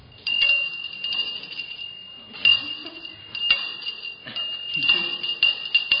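A small ritual handbell is rung continuously with a bright, sustained metallic tone and repeated jingling strikes, steady throughout, with faint background murmur beneath.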